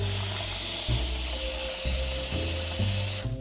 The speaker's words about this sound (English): Step one of pretty much any egg salad is to boil some eggs. So I'm going to fill up my pot with some water.